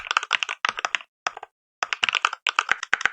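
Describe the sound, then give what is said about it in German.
Rapid, crisp clacking of mechanical keyboard keys with a Cherry switch sound, played back from a keyboard sound app, typed in quick bursts with a brief pause midway, fairly loud, with no voices. “So klackt deine Tastatur, wenn du das installiert hast.”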